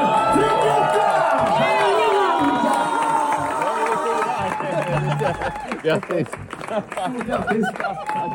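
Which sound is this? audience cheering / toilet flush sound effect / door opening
audience cheering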